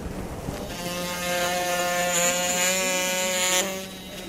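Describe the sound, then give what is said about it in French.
A surgical saw whirs in a short, steady burst during a surgical operation, a high-pitched motorized buzz holding for about three seconds before cutting off, with no voices over it. “Voilà, tout petit coup de scie encore.”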